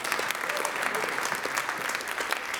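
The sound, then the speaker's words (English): A church audience shouts amen, claps and cheers in a steady, dense burst of applause, with scattered voices calling out amid the clapping, holding loud and even for the whole stretch. “There needs to be a louder amen than that.”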